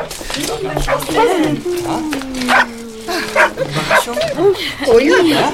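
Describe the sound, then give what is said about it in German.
A cluster of dogs and puppies, carried in a large wicker basket, bark and yip in quick, overlapping bursts. They are fairly loud, with whiny, high-pitched yelps rising and falling throughout and a sustained tone running underneath. “Jedenfalls sind diese Welpen eindeutig ihre Verantwortung.”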